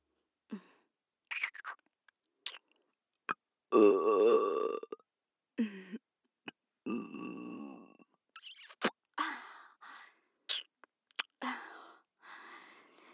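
Intimate burping: one long, resonant belch dominates the middle, surrounded by shorter burps and scattered wet mouth clicks and smacks, with no talking.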